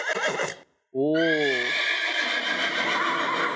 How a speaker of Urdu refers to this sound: گھوڑا، جی بھائی، یہ گھوڑا ہے یا ہارس ہے؟ ہارس ہے، گھوڑا نہیں ہے، دونوں ہیں.